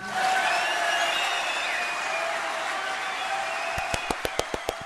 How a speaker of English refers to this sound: Well, can you split the applause?